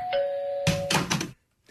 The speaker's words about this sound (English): All right, you have the doorbell. I have a doorbell.